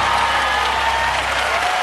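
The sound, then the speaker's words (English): Steady, dense applause from an audience, a continuous wash of many hands clapping at an even level, with a faint crowd murmur underneath and no talking. “That crowd loved it far more than ours did.”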